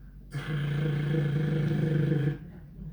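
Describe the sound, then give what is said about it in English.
A toddler about a year and a half old makes his tractor and heavy-equipment engine noise with his voice: one steady, buzzing, low-pitched rumble held for about two seconds, fairly loud, then it stops abruptly into quiet. “That's his tractor noise, his equipment noise.”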